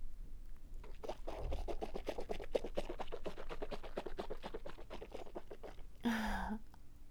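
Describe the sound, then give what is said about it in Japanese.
Semen bubbling and foaming in a mouth as it is swished, a rapid, steady patter of wet little pops and swishes for several seconds, ending with a brief voiced hum. “聞こえる？泡立ってる。”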